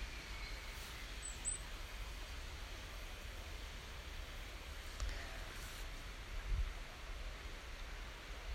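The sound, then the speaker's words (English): A steady, broad rush of easterly wind moving through huge trees at mid-morning, with leafy swells rising and falling, and a few faint bird notes barely surfacing. “Just leave you with the sound of that wind just moving those huge trees and the birds just getting their mid-morning snack.”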